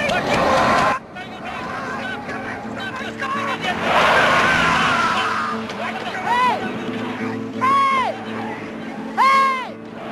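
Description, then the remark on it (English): A car roars past, nearly running people over, its engine noise swelling and fading within a few seconds, while people shout and yell excitedly around it. “Man, the only car we see all day, they try to run us over.”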